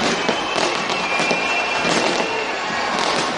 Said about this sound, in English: New Zealand, where everyone ringing in the new year. A big fireworks display, as you can hear right there going on. So already celebrating the new year in parts of the world.